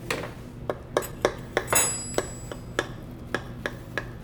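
Cutlery digs into a crusty, brown baked dish, freshly baked for about an hour and a half, making a steady series of sharp, crunchy clicks about three times a second, with one brief bright metallic ring partway through. No one speaks.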